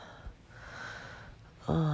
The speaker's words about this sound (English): Oh, breathing in and out. Breathing in.